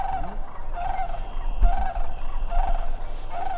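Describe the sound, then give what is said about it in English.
A second round of sandhill crane calls at a marsh in Wisconsin: a rolling, rattling chorus, with several mid-pitched bursts repeating about once a second over a steady low rumble. No one speaks. “A little while later, a second round of crane calls.”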